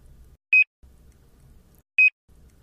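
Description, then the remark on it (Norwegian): Two short, high electronic beeps, about one and a half seconds apart, from a library self-checkout scanner registering books dragged over it barcode down, with low rumbling noise in the gaps between them. “Du hører et pip, og da er boka registrert.”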